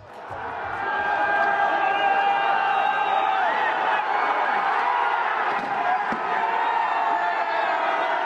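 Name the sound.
protesters smashing a statue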